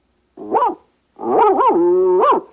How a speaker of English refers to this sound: Now, at the barn. One long howl, two short, one yip and a woof.